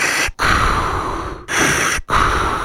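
Loud breathing at the House of Gas: a man takes deep, exaggerated gasps of air, drawn in three times in quick succession, each a long rushing inhale broken by brief pauses, with no talking.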